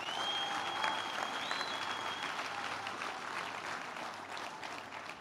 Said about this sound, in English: Clap your hands for the Lord if you can, somebody.